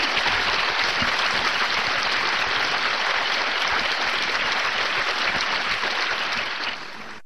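Sustained applause from an audience welcoming Hitori Saito to give a talk, a dense, steady clatter of many hands clapping at even loudness for several seconds before easing off slightly at the end, with no voices over it.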